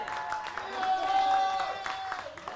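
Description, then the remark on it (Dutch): An audience breaks into dense, steady applause for a staff member and photographer turning 61 today, many hands clapping at once, with cheering voices and a sustained high tone ringing over the claps throughout. “Dus even een groot applaus”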